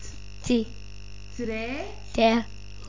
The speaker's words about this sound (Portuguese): E então, vamos ver aqui os animais que estão na quinta. Sapo.